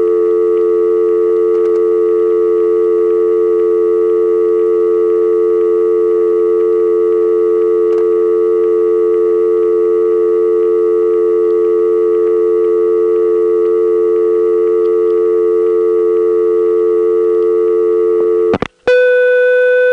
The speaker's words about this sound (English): the outgoing line is about to time back to dial tone, and the dial tone is going to be completely crisp and clear because it's coming through the wire trunk from Smyrna to Marietta. There's just nothing digital here, so the dial tone sounds great.